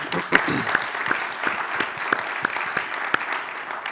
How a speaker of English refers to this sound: All right, let's get a quick round of applause.